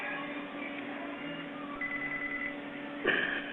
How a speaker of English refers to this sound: I have another phone call coming in.